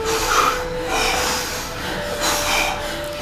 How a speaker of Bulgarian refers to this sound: Дишай. Мощно дишане.